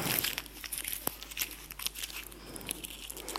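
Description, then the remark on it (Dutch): A 20-euro paper banknote is crumpled, giving a steady stream of dry crinkling and crackling with sharp little snaps, and no one talks. “Het is gewoon de waarde van dit stukje papier. Misschien kennen sommigen dit voorbeeld al. Maar ik kan hier van alles mee doen.”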